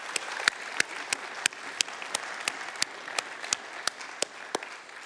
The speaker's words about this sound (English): A round of applause for Susan DeMel, please.